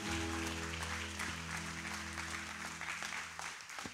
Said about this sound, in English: And so I want you guys to give a big hand clap for this, one of the great champions of Bethel,